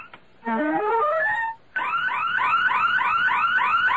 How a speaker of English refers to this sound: It's the burglar alarm.